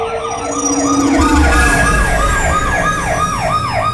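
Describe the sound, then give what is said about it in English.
Hover police patrol cars shriek to a halt in an alleyway, sirens wailing loudly in a fast, steady yelping cycle, rising and falling about three times a second, over a low engine rumble, with no voices. “hover patrol cars shrieking to a halt in front of the full moon.”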